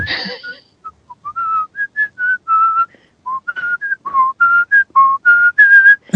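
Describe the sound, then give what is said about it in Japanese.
A person whistles a bouncy, upbeat tune from the video game Fantasy Zone, a quick run of clear, sliding notes with short gaps, loud and alone without any talking. “まず、口笛吹くと思わなかった。”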